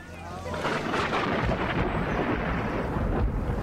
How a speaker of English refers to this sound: Tropical Storm Allison hit Houston, dropping 35 inches of rain in 2 days.